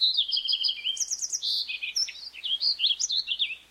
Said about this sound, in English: And they'll repay you with their beautiful songs, like those of a fox sparrow.